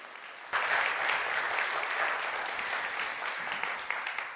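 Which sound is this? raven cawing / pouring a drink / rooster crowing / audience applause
audience applause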